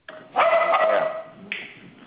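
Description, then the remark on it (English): A one-year-old female King Charles Spaniel puppy lets out a loud, drawn-out, high-pitched bark, then a second shorter yap, with no one talking over it. “She is a King Charles Spaniel.”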